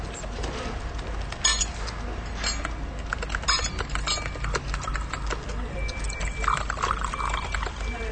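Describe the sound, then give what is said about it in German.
Water is poured into a glass, a steady splashing rush broken by a few sharp clinks of glass, moderately loud, with no one speaking. “ich möchte kein Glas Wasser.”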